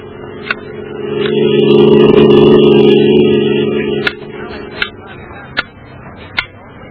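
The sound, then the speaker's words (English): A metronome in a music shop ticks at a steady, moderate pace, each click sharp and distinct, while a low droning hum swells up and fades away behind the first few beats. “I listened to the sound in a music shop, and that was it. A metronome.”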